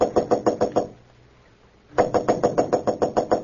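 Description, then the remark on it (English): Rapid, even knocking on the door of room 911 at the Marlboro Hotel in Marsden City: about six quick loud raps, a one-second pause, then a longer burst of around ten more at the same brisk rhythm, with no voices. “Roebling aboard a Metropolis-bound train to room 911 at the Marlboro Hotel in Marsden City, Clark Kent was about to knock at the door when suddenly he blanched.”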